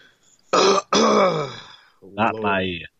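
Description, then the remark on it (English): A loud throat clearing: two rough, raspy bursts in quick succession, then a shorter voiced, gravelly hum after a brief pause. “I had to clear my throat.”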